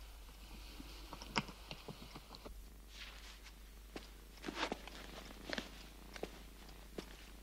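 Cats purring softly in a steady low rumble, with scattered light taps and clicks over the top; quiet, with no one speaking.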